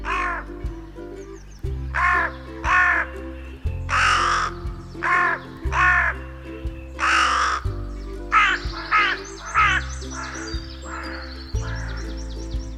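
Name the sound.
carrion crow cawing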